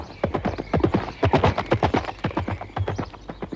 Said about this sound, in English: Dennis Moore, Dennis Moore, galloping through the sward. Dennis Moore, and his horse Concord.